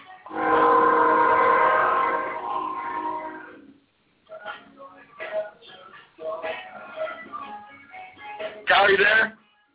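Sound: train passing with horn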